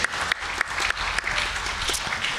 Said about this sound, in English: We also want to wish all the dads in the house a happy Father's Day, and just we're thankful for you, and just, yeah, we can, I think I heard claps. Yeah, we can clap for that.